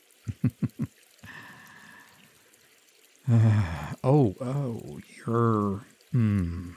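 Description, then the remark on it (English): Someone splashes water at a person: four quick wet slaps of water come in a fast rhythm, then a softer pouring, trickling stretch. After that, a voice lets out several loud, drawn-out wordless cries and gasps. “Hey, did you just splash water at me?”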